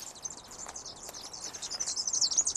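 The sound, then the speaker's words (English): Two superb fairy wrens, tiny round birds, twitter continuously in a bush beside a path in a rapid, high-pitched stream of chirps, fairly soft, with no voices present. “Can you hear them twittering away? They are superb fairy wrens.”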